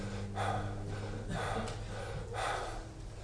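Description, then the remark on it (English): Heavy, exaggerated breathing demonstrated by a preacher during a sermon: three loud, rushing breaths in a slow, steady rhythm, each a gasping, airy whoosh with a low hum underneath. “If you compare reading the Bible to eating food, you can compare prayer to breathing. How many of you need to breathe?”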